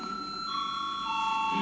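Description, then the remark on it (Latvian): A parliament voting bell rings continuously, called for a vote on debate time in the second extraordinary sitting of 16 April 2020, a steady high-pitched electronic tone with layered harmonics that holds unbroken for the whole short stretch, with no one talking. “Lūdzu zvanu.”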